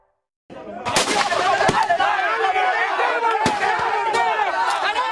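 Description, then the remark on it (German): Several sharp gunshots ring out at irregular intervals on a street in Managua, Nicaragua, in 2018, during street fighting between masked gunmen with assault rifles and homemade pistols and security forces, over a loud, chaotic background of shouting voices and commotion, with some shots louder than others. “Schüsse auf offener Straße.”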